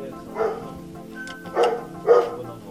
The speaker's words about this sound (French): Et j'entends un ouh ouh ouh. Ah, mais vous n'avez plus peur des chiens désormais.